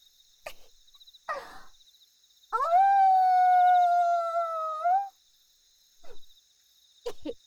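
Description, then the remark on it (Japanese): A single long, steady howl rises, holds for a couple of seconds, then drops off, a voice imitating a wolf while looking at a bright moon. Short breathy sounds come before and after, over a faint steady insect-like whine. “なあなあ、一回だけ吠えてもいいか。”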